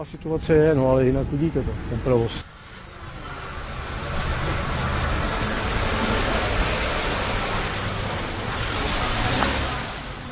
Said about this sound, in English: The pollution is becoming terrible, and you can see for yourself, just look at the amount of traffic.